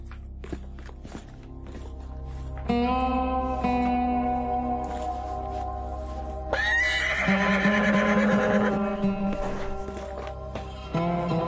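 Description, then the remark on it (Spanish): A horse whinnies loudly in two long, wavering neighs, with quick hoofbeats clattering underneath as it is ridden in a hurry. “Pues se cayó de un caballo, cabalgando a prisa para sacar un queso americano que olvidó en un cajón.”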